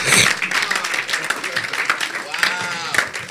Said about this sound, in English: Clap for the Lord Jesus.